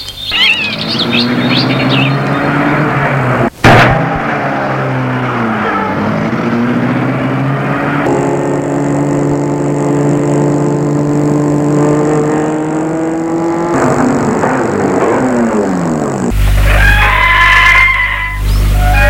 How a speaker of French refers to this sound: Et lui rentre. et met la voiture en route.